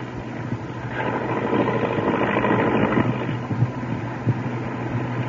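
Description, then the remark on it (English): A steady, loud airplane engine drone fills the scene, a continuous low hum with broad rushing noise on top, as if heard from inside the cabin of a plane in flight approaching Michigan City. “I think I'll tear up the memo now and scatter the pieces out of the plane.”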